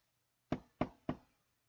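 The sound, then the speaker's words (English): Three firm knocks on Miss Minton's wooden door in a steady, even rhythm, each a sharp rap with a short resonant ring, fairly loud against a quiet background. “She took her candle and knocked on Miss Minton's door.”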